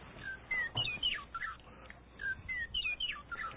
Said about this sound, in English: Oh, where's my little bird? I get the bird going here.